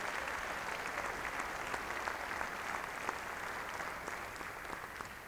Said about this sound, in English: To one and all who made this concert possible, let's give one more big hand. Big round of applause.